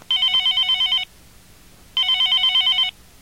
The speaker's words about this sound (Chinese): 两个小时后，海灵再次拨电话。